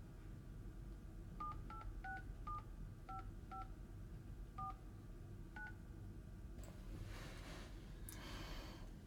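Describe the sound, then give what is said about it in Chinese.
A phone number being dialed to call the administrator: about ten short dual-tone keypad beeps at an uneven pace over a steady low hum, followed by a soft breathy rustle. “拨通了吗？”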